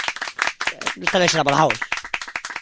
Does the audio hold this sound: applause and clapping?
yes